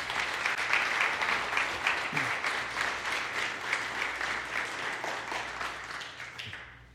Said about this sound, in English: would you give them an applause as they come up?